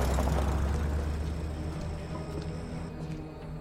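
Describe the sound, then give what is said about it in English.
A woman's car engine pulls away from outside a refinery with a steady, deep rumble that starts strong and eases off slightly over a few seconds. No voices are heard. “Maya pulls her car away as the man carrying a hard hat and lunch pail approaches.”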